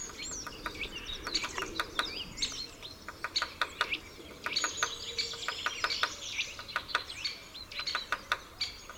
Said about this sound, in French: Un peu plus haut, à sa gauche, apparaît un pique-épêche, un habile charpentier qui sait travailler l'écorce pour rechercher les larves et les insectes. Ses coups de bec contre le bois s'entendent de très loin.